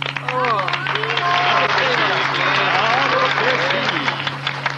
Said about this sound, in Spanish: Esta vez pedimos el aplauso fuerte